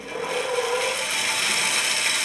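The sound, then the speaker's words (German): Steady rasping of a saw cutting wooden boards to size, a continuous gritty scrape that holds at an even loudness throughout, with no voices. “Aber jetzt säge ich die Bretter zu.”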